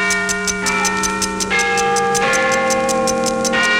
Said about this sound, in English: You can put Big Ben in your favorite wristwatch.